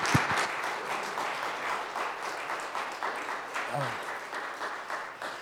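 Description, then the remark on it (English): A crowd applauds a young adult panel steadily for several seconds, a dense, even wash of many hands clapping at moderate loudness, with a brief voice sound briefly breaking through near the end. “Can I get a round of applause for the young adult panel?”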